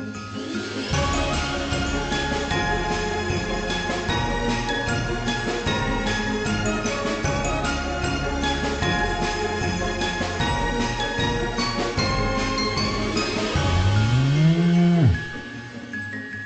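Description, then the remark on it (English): Bells jingle steadily and densely for the whole stretch while cattle wearing custom-made festive sweaters low in the background, capped by one loud, drawn-out moo near the end. No one speaks. “Took a while for the cows to coordinate the right look, but they landed on it.”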